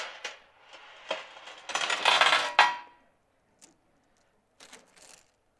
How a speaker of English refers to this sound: This is a chain that I hook up my four-wheeler to and winch it into the back of my truck. But the sound of chains, it always sounds like that, doesn't it?